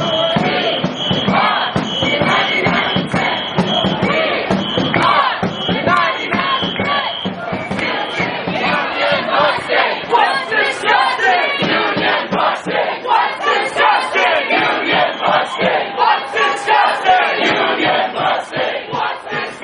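A large protest crowd of marchers from the Communication Workers of America, Occupy DC and Stop the Machine roars and chants together in a loud, continuous din as it pours into a Verizon Wireless store. Many voices overlap and shout, with rhythmic surges throughout.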